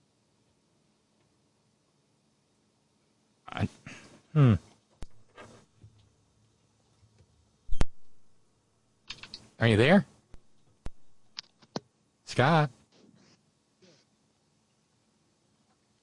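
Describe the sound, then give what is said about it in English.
A few sharp, isolated keyboard clacks sound at irregular intervals, scattered between short bursts of a person talking over an otherwise quiet line. “I hear like a keyboard clack or something, but I can't hear you.”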